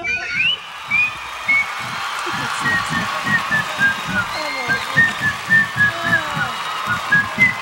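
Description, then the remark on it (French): A whistled melody of short, bright notes rides over a steady, thumping drum beat in a recorded song, the tune clear and continuous throughout. “C'est pas facile, surtout pour faire le bout qui siffle.”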